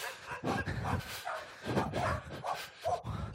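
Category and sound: animal, dogs barking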